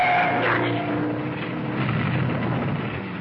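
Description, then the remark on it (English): Loud engines of two motorcycles roar continuously as they ride down the length of a garage, a dense snarling drone with a brief rising whine near the start, staying strong for the whole few seconds with no voices. “The headlights separated as two motorcycles roared down the length of the garage.”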